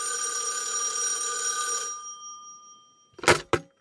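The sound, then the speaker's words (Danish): An old mechanical telephone bell rings loudly for about two seconds with a bright metallic rattle, then fades, followed by two sharp clicks or knocks like a receiver being picked up. “Jeg kan fortælle, at i den første telefonsamtale, der er der Graham Bell ringer til sin assistent, Thomas Watson.”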